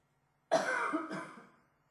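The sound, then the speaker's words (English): A single close, fairly loud cough with a harsh, throaty double burst, trailing off quickly into silence. “And a pure cough.”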